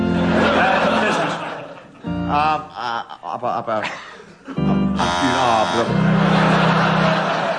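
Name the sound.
game show buzzer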